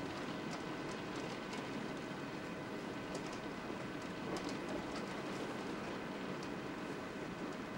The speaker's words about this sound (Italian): Si sente la pioggia.